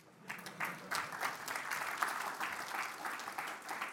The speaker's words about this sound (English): This would be a good time to clap.